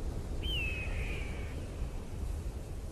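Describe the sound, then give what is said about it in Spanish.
A single high, piercing cry of an eagle flying over a desert, starting sharply and sliding slowly downward, fading after about a second, heard over a steady low rumble of outdoor background noise. “Eso que suena parece un pájaro.”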